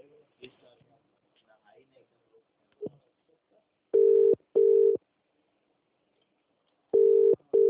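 Faint murmuring gives way to a loud, steady telephone tone sounding in two pairs of short beeps, a few seconds apart, like a line being dialed out for a call answered by a steel market service.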